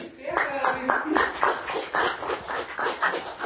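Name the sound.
audience applause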